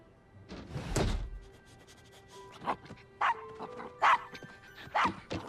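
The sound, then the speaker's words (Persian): A dull thump, then a dog lets out four short, sharp barks spaced about a second apart, moderately loud, with a faint background hum and no talking. “اگه صاحبت پیدا نشه میتونی برای همیشه پیش ما بمونی، مثل یه قصد برای سگا میمونه.”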